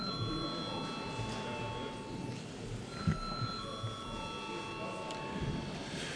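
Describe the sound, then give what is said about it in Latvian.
A steady electric bell rings continuously in the Latvian parliament (Saeima) to call a vote, its bright tone hanging over a low murmur of voices and shuffling. “Lūdzu zvanu.”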